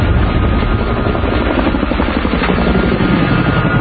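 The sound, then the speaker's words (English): A loud helicopter with a 58-foot rotor span thunders steadily as it is brought down into a street intersection in downtown Los Angeles during filming, its rotor producing a dense, continuous throbbing roar with a low chopping pulse and no other sounds. “Bringing this helicopter down into this intersection, helicopter has a 58-foot rotor span,”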